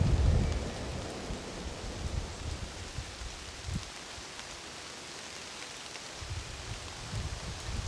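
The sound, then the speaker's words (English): Steady rain hisses evenly throughout in Geneva, by the tree-lined banks of the River Rhône, with intermittent low rumbling swells underneath, like thunder or heavy gusts, louder at the start and again near the end. No voices. “Birds sing while a steady rain continues to cleanse the city's facade.”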